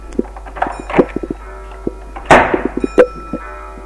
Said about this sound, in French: On n'entend plus rien. Puis, une porte qui claque dans le noir.